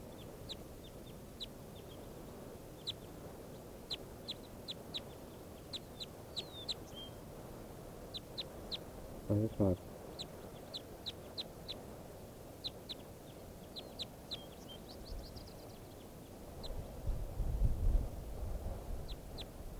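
Bird calls of short, sharp, high chirps repeat steadily across the whole recording over a low outdoor rumble, with a brief louder knock midway and swelling background noise near the end.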